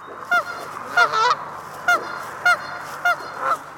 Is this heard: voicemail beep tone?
no